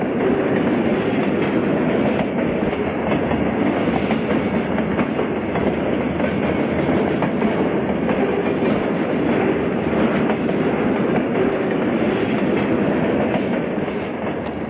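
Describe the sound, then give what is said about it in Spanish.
A train rolls past with a loud, steady roar and a faint rhythmic clatter of wheels on track, holding constant for the whole stretch before easing slightly at the very end. No one speaks. “«¿Vieron ustedes el tren?», preguntó nuevamente el policía”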